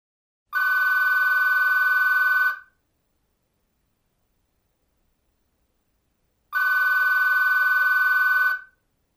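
A telephone rings twice, each ring a steady two-second electronic trill, separated by a few seconds of silence. The rings are loud, with no voices present.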